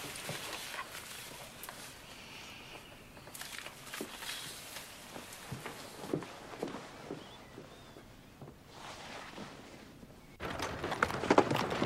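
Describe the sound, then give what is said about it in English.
A horse-drawn cab's hooves clip-clop on a hard London street at a steady, moderate pace as it arrives at a house, with a constant rumbling street noise underneath that swells louder toward the end. “Stepping out of another horse-drawn cab, Beatrix arrives back at her parents' London house.”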